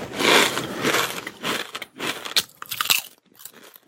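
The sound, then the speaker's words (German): Loud, bright crunching of potato chips from a bag being chewed, a quick run of crisp bursts with sharp crackles, alone without any talking, ending in a few sparser, quieter crunches. “Ich glaube, ich höre ihn schon knusen.”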